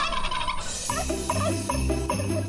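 A turkey gobbles in a rapid, loud burst of warbling calls repeated several times in quick succession, clear with no talking, used as a signal on the radio station Cabo Mil Radio 96.3.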